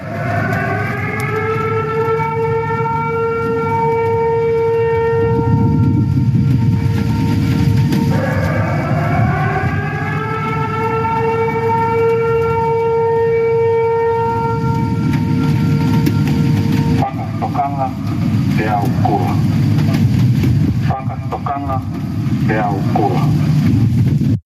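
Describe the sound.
A loud tsunami warning siren wails in Tonga overnight as the wave front approaches, rising in pitch and holding a long steady tone, then rising again over a heavy low rumble, with a muffled announcement-like voice toward the end.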